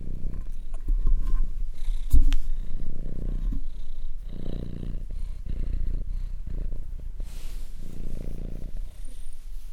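A male cat purrs right up against the microphone, a loud, steady rumbling that swells and fades in rhythmic pulses with each breath, with a brief bump or thud partway through.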